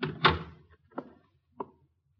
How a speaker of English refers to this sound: Well, in that case, maybe you ought to shut the door.